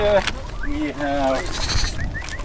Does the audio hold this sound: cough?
no